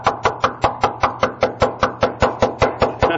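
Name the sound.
knocking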